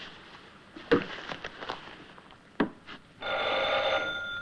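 A few scattered knocks and clunks, then an old-fashioned telephone bell bursts into a loud, steady ring for about a second.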